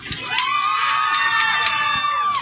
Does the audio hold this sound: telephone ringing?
no